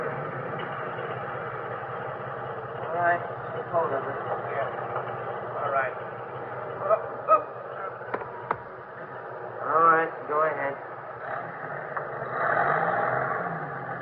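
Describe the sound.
A truck arriving along a street to collect the dead; its engine rumbles steadily throughout, a low, continuous drone with a slight vibration, while voices murmur intermittently over it.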